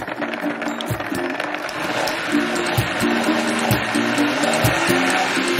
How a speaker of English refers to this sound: This is my boiled veg and the water. Oh. So that's the carrots, as you can see, the potatoes and the onion all in the blender.